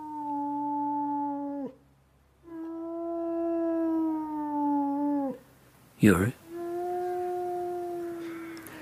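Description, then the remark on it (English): A person howls like a wolf cub at their mother's funeral: three long, steady, wavering cries with short breaks between them, fairly loud, and a brief rough burst of noise before the last one. “But at your mother's funeral, you stretched your neck like a wolf cub and howled.”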